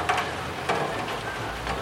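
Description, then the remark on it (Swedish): Steady rain patters against a window pane, with a few sharper drops tapping now and then over a soft, constant wash of hiss. Fairly quiet, with no voices. “Det kan också vara droppar på en fönsterruta.”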